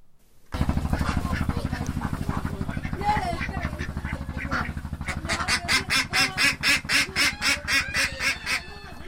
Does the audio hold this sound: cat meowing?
no